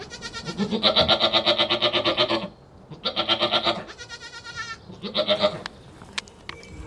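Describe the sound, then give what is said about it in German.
Several milk goats bleat loudly in a series of long, wavering calls with short pauses between them, and no voices speak. “Die älteren Ziegen behalten ihre Lämmer und werden trotzdem morgens und abends gemolken.”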